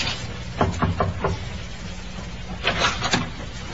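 A ship's captain knocking on a cabin door: a quick set of four sharp raps, a short pause, then three more, over a steady low mechanical hum.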